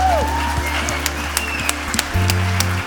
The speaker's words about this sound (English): Est-ce que Dieu n'est pas extraordinaire? Je crois qu'on peut applaudir Dieu aussi.